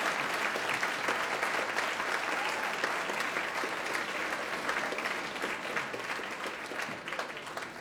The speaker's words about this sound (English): Please, please give another round of applause